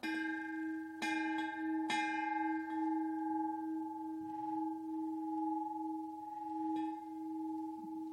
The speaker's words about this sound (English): All right, so I'm going to ring the bell.